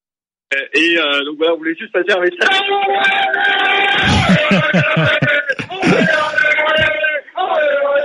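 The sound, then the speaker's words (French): A crowd of Rennes football supporters shouts and cheers loudly and almost continuously, voices overlapping in raucous calls, with a slightly thin, broadcast-like tone. “Ah, ils sont là, les Rennais.”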